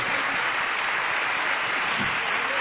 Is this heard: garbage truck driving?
no